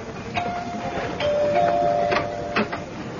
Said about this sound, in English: It was a night in June. A beautiful spring night. Daddy was in the study when the doorbell rang.